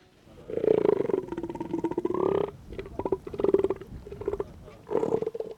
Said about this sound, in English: In this tide pool, several tons of zeppelin-shaped elephant seals, big as Volkswagens